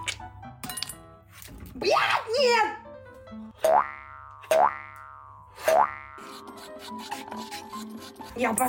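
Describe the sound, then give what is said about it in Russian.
Frozen homemade melon ice cream, frozen in a freezer for 1.5 hours, is scraped out of a container, several rasping strokes with springy, twangy sweeps in a loose rhythm, and a short exclamation from a voice. “И она стала мороженой. Сейчас я лед достану.”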